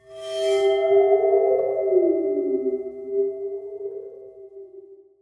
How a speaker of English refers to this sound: It's a water phone. Water phone, yes. Which is like this metal thing that has some water at the bottom of it. That's why it kind of goes wobble, wobble, wobble.